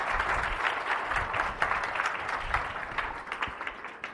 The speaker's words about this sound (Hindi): जरा यीशु मसीह के लिए जोरदार तालियां दें, जोरदार तालियां।